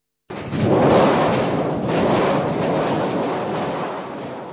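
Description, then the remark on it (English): A large metal thunder sheet is shaken in a theatre to mimic a storm, making a loud, continuous metallic rumble that swells twice and then rolls on steadily, with no voices. “Sounds in the theatre, like the typical creation of a storm on a large sheet of metal, are usually done by the newest members, who are in the process of learning the puppeteer's craft.”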